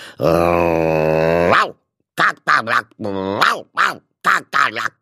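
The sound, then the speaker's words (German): A human voice imitates an angry dog: a long, sustained growl, then a quick run of short, sharp barks, loud with brief pauses between them. “Bellte er.”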